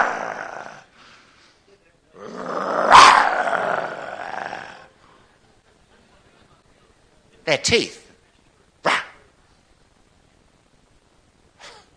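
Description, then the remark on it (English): A person makes one loud, drawn-out mock lion roar, gummy and mushy as if toothless. A few short spoken bursts follow after a pause. “Scary lion. A lion would not be that.”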